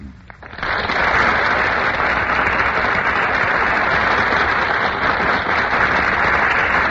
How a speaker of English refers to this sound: Ladies and gentlemen, that burst of applause is for Madeline Carroll and Melvin Douglas, who have just made their entrance on our Gulf Theater stage.